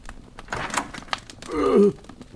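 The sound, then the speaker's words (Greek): A front door is opened: a few short knocks and rattles of the handle, then a rising creak that swells loudly for a moment before fading out. No one speaks. “Πάω να ανοίξω.”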